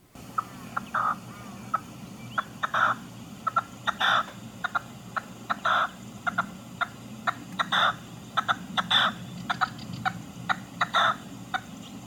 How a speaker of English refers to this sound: Here's a recording of the red-legged partridge, courtesy of the British Library.